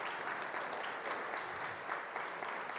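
Steady applause from a crowd, a dense, even patter of many hands clapping at once, sustained without pause for the whole stretch with no voices rising above it.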